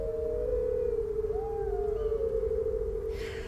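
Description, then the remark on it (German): Wolves howl in long, sustained, gently wavering tones that overlap and glide together, carried over a steady low rumble, with no one speaking. “Aber wenn Vollmondlicht sie berührt, dann werden sie zu wunderschönen Wölfen. Und musikalisch werden sie auch.”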